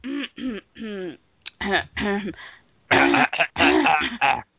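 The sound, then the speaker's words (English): Someone clears their throat repeatedly in a series of short voiced bursts, growing louder and more forceful toward the end, with no other sounds around them. “You have to clear your throat that much, really?”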